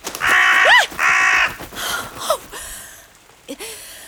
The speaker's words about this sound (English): Please! I don't need a spooky bird companion, thank you! Well, maybe it's fine. I mean, it's not a bear. Or a madman with a knife. Or a witch. Or the devil. Just a lovely, natural birdie. Just a silly old crow.